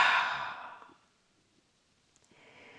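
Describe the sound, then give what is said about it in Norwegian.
A slow, breathy exhale through the mouth after a held breath, during a guided breathing exercise, fades out over about a second, followed by near silence, then a soft airy breath begins again at the end. “Og pust ut gjennom munnen.”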